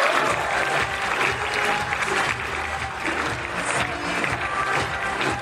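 An audience applauds to welcome a speaker to the stage, a dense, even patter of many hands clapping that holds at a fairly loud level for the whole stretch, with no voices speaking over it.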